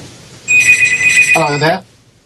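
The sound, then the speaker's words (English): A telephone rings once in a steady electronic trill lasting about a second, loud, with a brief voice sounding as the ring ends. “You might want to take any phones you have there off the hook, mate.”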